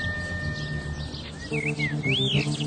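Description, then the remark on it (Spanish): A small bird chirps in a park in short, sweeping whistled notes, a few quick calls rising and falling, heard over a steady soft musical hum in the background. “Ese pajarito, ¿lo escuchas?”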